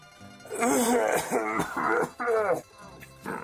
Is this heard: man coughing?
yes